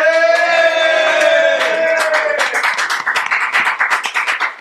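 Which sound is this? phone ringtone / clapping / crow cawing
clapping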